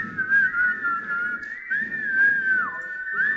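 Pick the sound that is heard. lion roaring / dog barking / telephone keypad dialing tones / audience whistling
audience whistling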